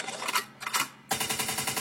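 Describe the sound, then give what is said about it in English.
A loud rewind sound effect: two short bursts of rapid, stuttering chatter, then a longer continuous run of fast rattling pulses, with no voices. “Bunch of Lincoln means rewind, the gunshot means forward. You requested it, so we rewind.”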